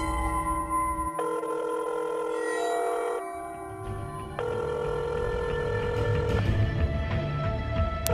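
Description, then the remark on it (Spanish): A telephone rings on the line during an outgoing call, steady electronic tones that shift pitch every second or two, fairly loud against a low droning background, with no voices. “Voy a llamar.”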